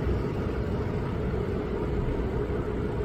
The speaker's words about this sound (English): Yeah, three planes landed. Wow. So the planes land every minute at Toronto's airport.